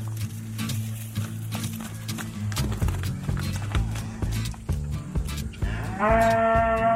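A cow, Grasshopper, moos in long, deep, drawn-out calls while separated from her calf, answered near the end by the calf's higher-pitched bawl, with scattered knocks and thuds in the background.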